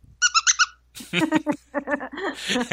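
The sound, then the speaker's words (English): Four quick, high-pitched squeaks from a squeezed Chewbacca dog squeaky toy come in a fast rhythmic burst, fairly loud, then a person starts talking right after them. “And Thea has a Chewbacca squeaky toy, by the way, that she's played with on the other side of this.”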